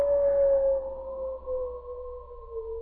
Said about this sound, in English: Those wolves know we're going to die. They howl like that when death's at hand.